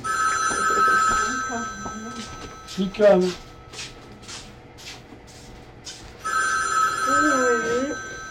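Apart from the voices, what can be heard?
telephone ringing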